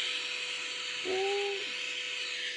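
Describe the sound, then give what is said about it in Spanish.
A vacuum cleaner white noise recording played from an app: a steady drone, a constant airy hiss that never lets up, with a brief higher whine rising and fading about halfway through. No one speaks. “Mira, aspiradora.”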